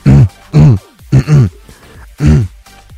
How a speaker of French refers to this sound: Quoi, qu'est-ce qu'il y a? J'ai pas le droit de me racler la gorge parce que je suis malade?